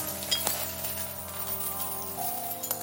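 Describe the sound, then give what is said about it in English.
Gold coins pouring out of a vase, metal clinking with a few sharp bright clinks and steady ringing tones that hang on between them. No one speaks. “It was like metal on metal now. It almost sounded like coins.”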